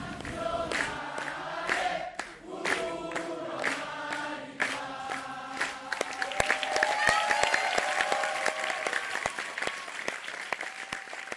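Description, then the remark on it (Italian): An audience applauds after a theatre performance of Mistero Buffo, directed by Alessio Bergamo: dense overlapping clapping that swells and grows busier midway, with some indistinct voices and cheers mixed into the steady ovation. “Dopo gli applausi, come sempre, discutevamo dello spettacolo con gli attori, i registi e i tecnici.”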